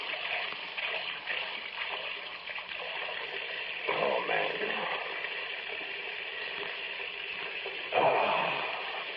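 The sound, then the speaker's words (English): Tap water runs steadily into a glass in a small kitchen as someone gets a drink of water, a continuous hiss and splash, with a brief spoken exclamation over it and a small surge of flow near the end. “I better be getting out of here after I get a drink.”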